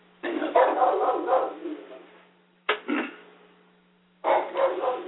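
A pet dog barks in three loud bursts: a long run of rapid barks, a single short bark, then another flurry after a brief pause. No one speaks.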